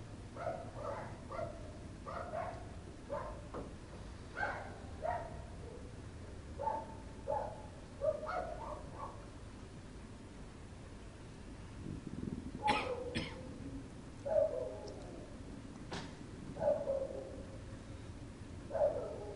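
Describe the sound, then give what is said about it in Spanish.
A dog barks repeatedly in short, irregular bursts, sounding muffled over a low background hum, with no one talking. “Dejamos el perro allí y volvemos al cuerpo.”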